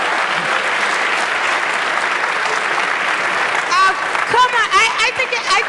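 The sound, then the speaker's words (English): A large audience claps steadily in a dense, loud wash of applause for Jeremy Zimmer, with whoops and whistles rising out of it during the last couple of seconds. “I want you guys to give him a big round of applause.”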